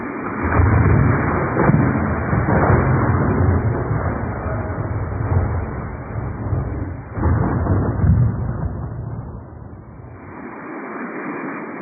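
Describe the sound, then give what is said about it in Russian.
A thunderstorm breaks out over a field: a steady, loud hiss of heavy rain with deep thunder rumbling through it, swelling twice before easing toward the end. “Шел он однажды через незнакомое поле, и вдруг разразилась гроза.”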